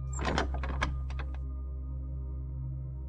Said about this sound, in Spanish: Sigues avanzando y te encuentras con una cuarta puerta. ¿Qué habrá ahora al otro lado? La puerta se abre.